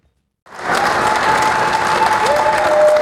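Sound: crowd cheering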